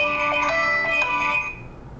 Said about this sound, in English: Someone getting a phone call? Yes, me.